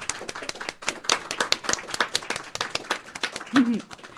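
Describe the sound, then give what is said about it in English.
A burst of audience applause welcoming members of a band: many hands clapping in dense, irregular bursts, steady and moderately loud, with a brief higher vocal sound or whoop near the end. “So everyone, give a big round of applause for them.”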